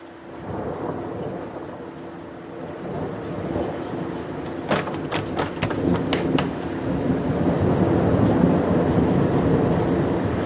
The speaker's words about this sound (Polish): Zobacz, co się dzieje za oknem. Ulewa. Strasznie.